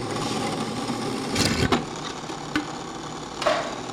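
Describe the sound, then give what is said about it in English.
A drilling machine runs steadily, drilling where a bowl can be hung, with a dense, buzzing mechanical drone broken by a few sharp clicks and brief louder bursts as the bit works. No one speaks. “These are drilling where the bowl can be hung.”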